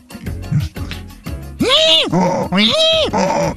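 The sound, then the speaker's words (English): A person imitates a donkey's bray, giving several loud, strained hee-haw cycles after a brief stretch of quieter vocal sounds. “Give your best donkey impression or noise.”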